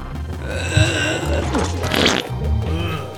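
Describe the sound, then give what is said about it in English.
A long, loud fart with a low, rumbling buzz that sputters and wavers for about three seconds, ending in a brief breathy burst. “Yeah, my wind is strong.”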